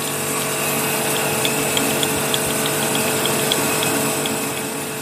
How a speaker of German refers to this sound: Also ich drehe es weiter nach oben, bis ich sozusagen frei über den Stein drüber schleifen, drüber fahren kann.